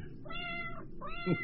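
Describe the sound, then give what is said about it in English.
An old cat meows twice in close succession, the first call long and drawn out, the second shorter and rising, both clear with no talking. “Cat. You want up, huh?”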